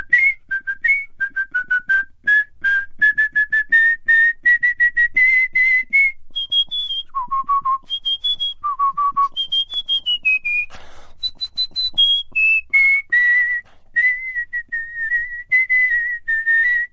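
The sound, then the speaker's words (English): A person whistles a lively melody alone, with clear, sustained pure notes that rise and fall in pitch, fairly loud for the whole stretch. “I was driving along listening to your interview with whistling champion”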